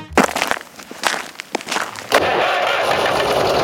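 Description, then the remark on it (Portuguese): A heavy Massey Ferguson tractor engine cranks over in a few sharp bursts, then catches and settles into a steady, loud idle rumble. Nobody speaks. “Mas é dentro dos tratores Massey Ferguson que a força do produtor se transforma em liderança, potência e tecnologia.”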